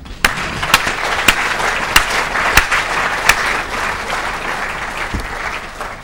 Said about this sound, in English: Okay, while you're doing that and applauding the speaker, I will give him a couple of seconds to get out of the stand.